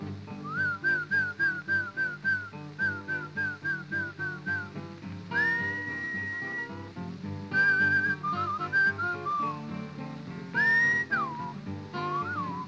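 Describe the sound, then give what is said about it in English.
A person whistles a bright, bouncing tune to call a horse, in short repeated phrases, then holds a few longer rising notes, clear over a steady instrumental backing. “You must whistle when you want your horse to come to you. Something kind of like this.”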